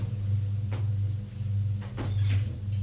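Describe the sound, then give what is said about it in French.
A door opens after someone knocks on it: a few soft clicks and knocks of the handle, then a brief high creak, all over a steady low electrical hum. “Elle s'ouvre.”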